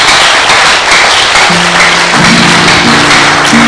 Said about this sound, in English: Clap your hands and appreciate Jesus.